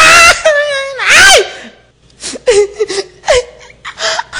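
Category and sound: human body sound, person crying and wailing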